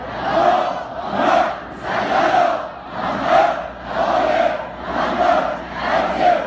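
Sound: crowd loudly chanting salawat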